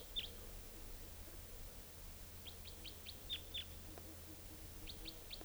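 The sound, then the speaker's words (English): Birds call in the late evening, about 8 o'clock: a wild type 2 bird coming in, a type 4 bird coming down to the cages, and decoy birds calling, with short, high chirps, some single and some in quick runs of four or five evenly spaced notes, over a low steady hum. No one speaks. “There's also a type 4 bird down here. And the decoys are calling.”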